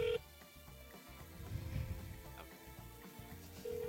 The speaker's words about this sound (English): The longest part is the phone ringing.